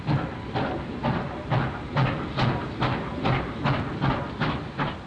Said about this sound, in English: The steam locomotive leaves the train. From Boston and from Springfield to New Haven, the motive power is provided by superheated steam.